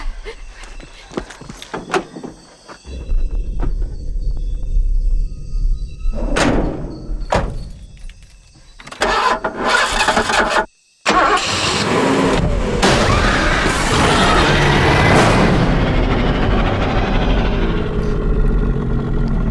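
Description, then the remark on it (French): A car engine cranks but fails to start, with sharp thuds and clunks around it, then a long, loud grinding rumble that fills the rest of the scene. “Il y a toujours une voiture qui démarre pas dans un film d'horreur.”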